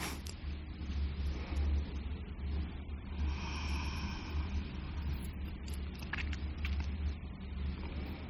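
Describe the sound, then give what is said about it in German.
Steady low rumble of city traffic, with engines humming and a car briefly revving around the middle, a continuous wash of road noise and no talking. “Ein paar Geräusche von der Stadt.”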